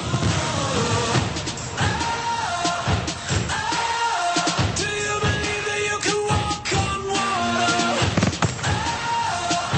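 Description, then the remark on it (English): Fireworks burst in a dense, irregular barrage, with sharp booms and crackles overlapping loudly for the whole stretch over a continuous, noisy background. “Fireworks.”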